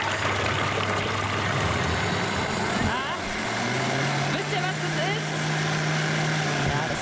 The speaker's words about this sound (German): Waschmaschine, die irgendwie gerade Wasser kriegt, das ist ein Thermomix.